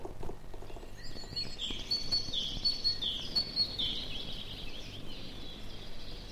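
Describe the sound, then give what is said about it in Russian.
Siskins, tits and goldcrests chirp and trill in a repeating pattern in a forest in spring, high-pitched, over a soft, steady outdoor background hiss. “В лесу запели чижи, синицы и корольки.”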